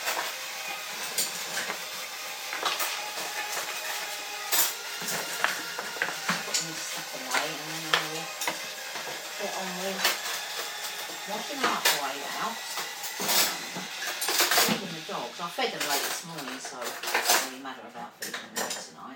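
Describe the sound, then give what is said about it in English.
Dishes and metal utensils clink and clatter repeatedly, with sharp irregular knocks of bowls and cutlery being handled as someone prepares food to feed dogs, and faint voices murmuring in the background. “I'm feeding the dogs.”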